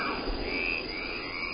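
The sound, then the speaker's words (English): A dense chorus of frogs croaking steadily, layered and continuous at moderate volume, with a soft airy wash beneath and no voices. “Let's do can you usually hear frogs and thunder?”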